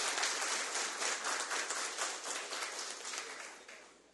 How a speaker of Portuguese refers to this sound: que para se fazer justiça, eu gostaria que desse uma salva de palmas, por favor